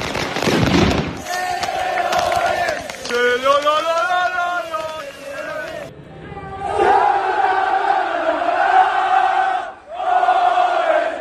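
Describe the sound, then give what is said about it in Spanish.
About 500 Elche football fans, waiting for the team to arrive home, chant and sing loudly in unison, opening with a sharp, crackling burst of firecrackers, with flares, before the sustained, rising and falling chant carries through to the end. “Petardos, bengalas, cerca de 500 aficionados esperaban al Elche llegando a casa.”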